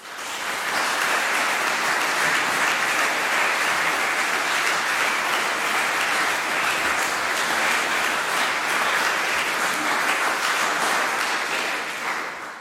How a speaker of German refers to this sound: So begrüsset mit einem warmen Applaus